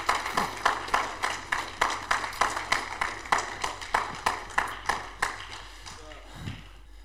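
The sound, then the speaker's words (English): An audience claps in steady unison, about three claps per second, the sharp beats carrying on for several seconds before fading out, with murmured voices faintly underneath. “Yeah, you can clap your hands.”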